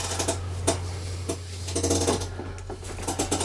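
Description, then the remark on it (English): Dice clatter and rattle across a hard tabletop in several quick bursts of sharp clicks, over a steady low hum, with no one speaking. “Wow, there's some hairy goddamn decisions being made and some fucking shitty dice.”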